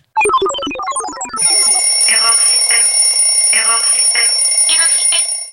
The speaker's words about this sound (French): Avez-vous déjà vu un rebo? C'est un réveil robot. Il réveille les enfants quand ils ont bien dormi.